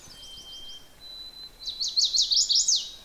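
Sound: chestnut-sided warbler song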